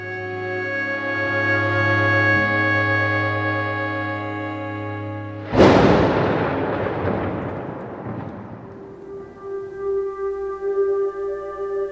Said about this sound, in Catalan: A fora encara plou, encara trona, encara llampega.